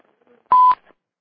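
A single short electronic beep of a caller joining the phone line sounds once for about a quarter second, clear and fairly loud against otherwise near silence.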